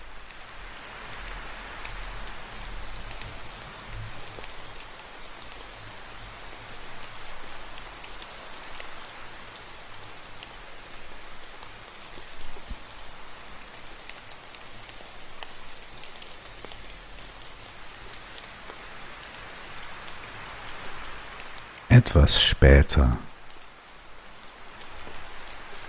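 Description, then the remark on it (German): Steady rain patters and hisses evenly for the whole stretch, with a low rumbling undertone like wind, and a brief soft voice near the end over the rainfall. “wird auch der Regen und der Wind sich wieder beruhigen.”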